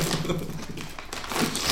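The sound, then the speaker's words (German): The plastic wrapper of a filled gingerbread heart crinkles and crackles steadily for a couple of seconds, a dense, irregular rustle of brittle plastic with sharp little snaps, fairly loud throughout and swelling toward the end. “Aber nicht so rascheln, das knistert immer so, ich krieg das so schlecht rausgeschnitten.”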